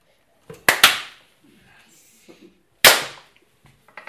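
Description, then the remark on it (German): A few sharp, loud hand claps in an uneven rhythm: a quick pair, a pause, then one strong clap and a couple of softer ones, with faint murmuring between. “Wir müssen klatschen.”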